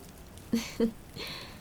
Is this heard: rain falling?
yes